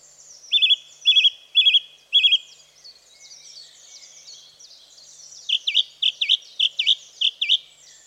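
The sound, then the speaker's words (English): A song thrush sings, repeating one bright whistled phrase four times, pausing, then switching to a new note repeated in a quick run, over faint background bird twittering. “Widespread throughout Europe and as far east as Siberia, northern populations are migratory, heading to Africa, whereas our song thrushes tend to be residents.”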